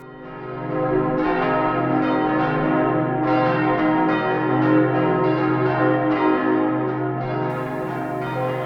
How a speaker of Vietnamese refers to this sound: Thế là trong tiếng chuông đổ hồi, giữa một đám đông vui vẻ,